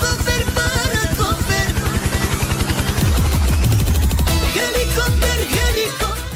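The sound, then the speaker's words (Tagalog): A loud helicopter with a rapid, steady thumping chop and a harsh engine whine, holding strong for several seconds with no voices. “Sana all naka-helicopter.”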